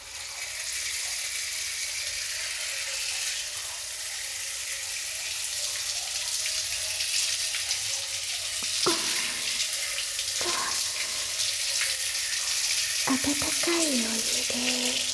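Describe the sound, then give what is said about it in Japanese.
Shower water sprays in a steady, hissing rush that holds for the whole stretch as soft foam is rinsed off, with a few soft knocks and a brief low squeak toward the end. “シャワーで流しますわ。”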